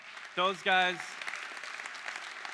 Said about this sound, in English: And I got to baptize 5 middle schoolers in the water on Friday night. So you need to cheer for them.